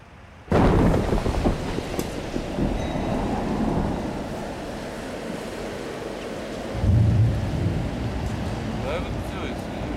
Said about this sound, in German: Ein starker Taifun, richtig? Ja. Dieser Ort ist auch nicht der beste. Der Wind ist hier noch stärker als bei der anderen Stelle.